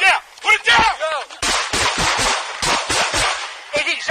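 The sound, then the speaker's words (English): Frantic shouting gives way to a rapid burst of about eight loud gunshots fired in quick succession by a police officer as he was stabbed with a knife, recorded on police body camera video; sharp and harsh, with raised voices still audible between the shots. “approached one of the officers, pulled a knife, and stabbed him as the officer pulled his weapon out and fired. Body camera video recovered from the stabbed officer and another officer nearby captured what happened.”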